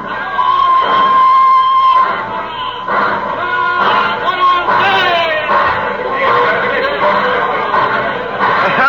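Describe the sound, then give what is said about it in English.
A cheerful crowd at a train station at Christmas fills the space with many overlapping voices, chatter and bursts of laughter, loud, holding steady for several seconds in a busy, echoing setting. “A ruddy happy crowd out there at the station.”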